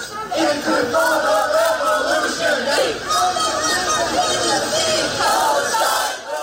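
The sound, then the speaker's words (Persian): A crowd of student protesters at US universities shouts together against Joe Biden's handling of the war in Gaza, calling for a ceasefire, in a loud, continuous roar, voices rising and falling in rhythmic chant-like waves with no pauses throughout. “فریادهای مانند این حالا به شکل قابل توجهی در مراکز آموزشی آمریکا شنیده می‌شود.”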